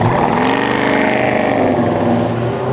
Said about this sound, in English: he was actually fronting the 1,500 or so motorcyclists that have ridden into Clunes today.